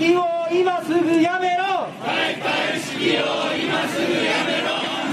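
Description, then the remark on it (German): A street protest crowd in Tokyo during the Olympic Games chants loudly, one amplified voice rising in drawn-out, wavering calls before many voices join in a dense, rhythmic roar of shouting and noise. “Und so gehörten für Thomas Bach auch diese Proteste zum Sound of Tokio.”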